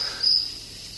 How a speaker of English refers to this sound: I'm studying this cricket. And two are the male and female.